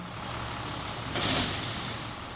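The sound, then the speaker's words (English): A City of Boston snow plow truck's engine idles with a low, steady rumble while two massive scoops of salt pour into its bed with a brief rushing, hissing spill, loaded from a loader scoop in winter. “Two massive scoops of salt are poured into the back of his truck, and then we're on our way.”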